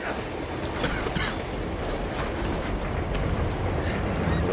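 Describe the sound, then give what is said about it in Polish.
A steady, dense rumble of train wagons rolling along in a video game, a continuous loud roar with rattling texture and no pauses or voices. “Jakbyś tam nie wpadł między te wagony, to byłbym rad.”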